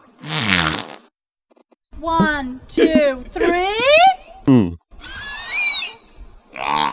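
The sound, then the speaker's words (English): A whale makes a string of six or seven voice-like calls imitating human counting to three, with groaning, sweeping tones that bend up and down in pitch, loud and separated by short pauses. “I mean, I know that the whale doesn't understand that it's counting to three, but it's obviously trying to imitate human sound.”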